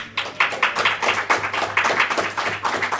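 About four audience members clapping in an uneven, sparse patter of sharp claps over about three seconds, thin and scattered rather than a full round of applause, with a low steady hum underneath.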